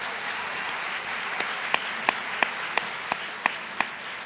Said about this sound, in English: Madeline Albright is here as part of the Institute for Leadership Studies event tonight in Angelico Hall at Dominican University of California. We'll have it for you in its entirety right here on Penguin Radio. Welcome. Welcome. Yes, let's applaud.